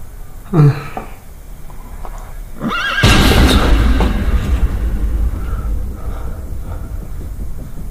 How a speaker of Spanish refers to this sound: ¿Un caballo?